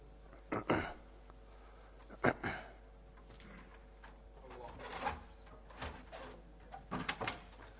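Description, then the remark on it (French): A door being closed at the start of a French-language lesson on hadith, with several short clunks and rattles spread over a few seconds, over a quiet hum and faint murmuring in the background. “Si quelqu'un peut fermer la porte, barakallahu fikoum.”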